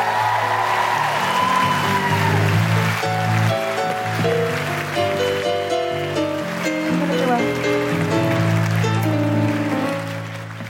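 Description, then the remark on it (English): A crowd applauds steadily and loudly for Sarah Pascoe, Aisling Bee, Josie Norton and Steve Alley, mixed with live music playing underneath, the clapping fading slightly at the very end. “Big round of applause for Sarah Pascoe, Aisling Bee, Josie Norton, and Steve Alley.”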